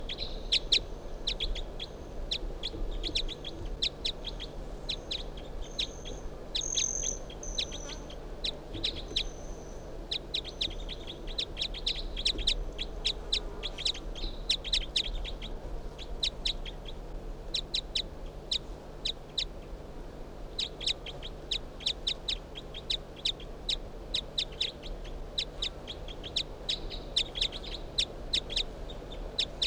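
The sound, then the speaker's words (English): Bird 361 calls back in response to bird 362, which was just brought out, in bursts of rapid, high, sharp chirps, with a brief pause midway before the quick calling resumes over a low background hum. “361 in response to bird 362, who I just brought out here.”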